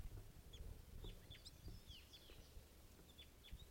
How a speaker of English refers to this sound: Just caught the male. He got away. Wild bird here.